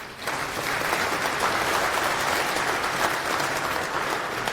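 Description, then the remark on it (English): Sustained applause from an audience welcoming a speaker presenting CEL, the Common Expression Language in Rust; a dense wash of many hands clapping at steady loudness throughout, with no talking over it. “Now I can compare to clapping at the end and see how well I did.”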